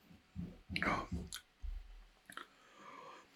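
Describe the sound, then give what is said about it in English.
Wet gulping as someone swallows a long drink of a strong, foamy fizzy beverage, several quick swallows with mouth clicks, then a soft breathy exhale at the end. “Did you take a long drink there or just a moderate drink?”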